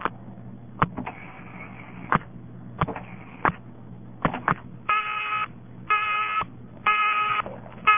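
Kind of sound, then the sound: signal or alarm, telephone busy signal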